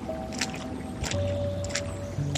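A small spotted horse slaps its right front hoof down into shallow water again and again, throwing up three or four sharp splashes at an uneven rhythm over a steady low background hum.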